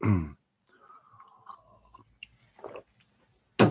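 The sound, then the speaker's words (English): Quiet mouth sounds of someone sipping water: a soft slurp, small wet clicks and a gulp, with short bursts of breath or voice at the start and end. “Have a sip of water.”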